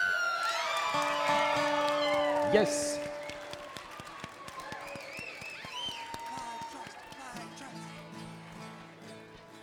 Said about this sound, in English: Hey, let's everybody give a real quick round of applause for the Applied Trust.